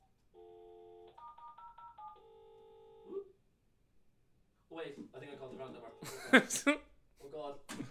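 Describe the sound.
A cordless phone keypad beeps out a quick run of steady dual-tone presses as a number is dialed, clear, followed after a short pause by people talking and laughing.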